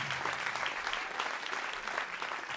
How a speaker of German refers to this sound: Vielen Dank noch, einen großen Applaus nochmal für unsere drei Freiwilligen